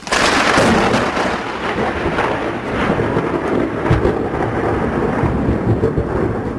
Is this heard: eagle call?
no